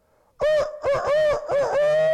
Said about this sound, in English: And the rooster will crow.